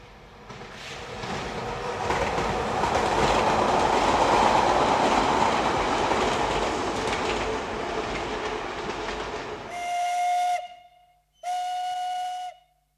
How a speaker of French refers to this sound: Il prend le train.